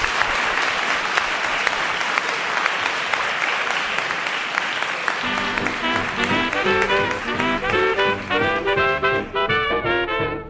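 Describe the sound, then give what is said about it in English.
The live audience of the program Philosophy Talk claps steadily and loudly, a dense wash of many hands, and about halfway through tuneful music begins playing beneath the continuing applause. “We want to thank everyone in our live audience for participating in our program today. Give yourselves a round of applause.”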